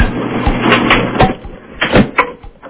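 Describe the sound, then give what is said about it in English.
A sneaker thumps around with other clothes inside a running clothes dryer, giving loud, irregular knocks every half second or so over a steady low mechanical hum. “Run a sneaker and shoe in the dryer.”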